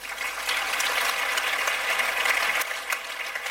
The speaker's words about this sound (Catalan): I és per a ell també. Un aplaudiment.